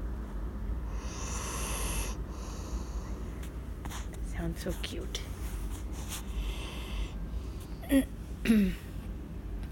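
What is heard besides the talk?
dog snoring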